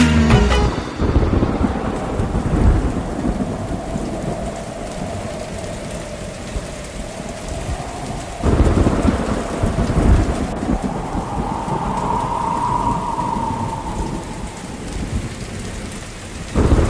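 Steady, heavy rain pours down, with deep rolls of thunder rumbling through it and swelling loudest about halfway through. A faint whistling tone drifts over the downpour.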